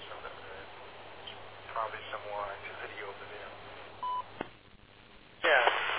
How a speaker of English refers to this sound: I just hear an Echo Link call? I'm not sure.